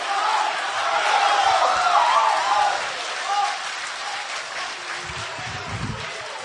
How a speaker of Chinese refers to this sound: 谢谢，谢谢大家给我一个人的掌声。 俩人表演给一个人掌声， 我都不爱说了，真的 是。